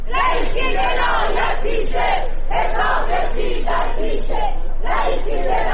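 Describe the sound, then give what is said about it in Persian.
A crowd of protesters, complainants and victims' families holding flags and pictures of victims, chants slogans in unison outside a courthouse during a trial, including slogans against Ebrahim Raisi; loud and steady, with rhythmic bursts of shouting that rise and fall roughly every second. “همزمان با برگزاری دادگاه، بسیاری از شاکیان پرونده و خانواده قربانیان کشتارهای دهه 60 با در دست داشتن پرچم‌ها یا تصاویر قربانیان در مقابل دادگاه تجمع کردند و شعارهایی از جمله علیه ابراهیم رئیسی سر دادند.”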